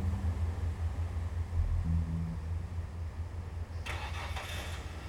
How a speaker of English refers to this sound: And the car started up and drove off.